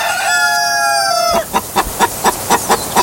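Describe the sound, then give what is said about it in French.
A hen cackles after laying an egg: one long, drawn-out squawk, then roughly eight quick, evenly spaced clucks in a steady rhythm, loud and alone with no voices. “Une poule vient de nous pondre un chiffre.”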